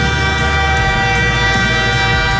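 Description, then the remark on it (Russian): The horn of an approaching train blares in one long, steady, loud blast, its rich harmonic tone held for the whole stretch without a break, with no voices. “Услышали гудок?”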